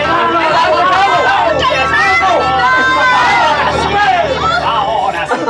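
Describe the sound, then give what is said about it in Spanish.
A crowd of sailors shout and cheer all at once, celebrating that two contenders have reached the top of a crane: a dense, loud jumble of overlapping voices with rising whoops and calls that never let up. “Pero la voz de la hermosa rubia se ahoga con los gritos jubilosos de los marinos que celebran el que los contendientes ya estén en lo alto de la grúa.”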